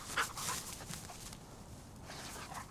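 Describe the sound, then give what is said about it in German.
A hunting dog snuffles and whimpers softly while searching during a rabbit hunt in the Fröttmaninger Heide on the northern edge of Munich, brief high whines over steady rustling and panting, with no one speaking. “Also der Hund sagt, da ist nichts drin.”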